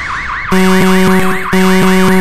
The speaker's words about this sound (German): Alarm! Alarm! Störfall im Bioreaktor 1!